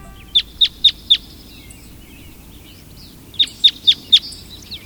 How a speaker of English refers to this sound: We're hearing the call of a red crossbill. Crossbills travel in a small flock in search of seeds from the cones of pines, spruces, and firs.